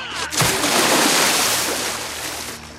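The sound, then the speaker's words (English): A man loses his footing and crashes backward into water with a loud, heavy splash, followed by a couple of seconds of churning, sloshing water as the surface settles. “loses his footing and falls back into the water.”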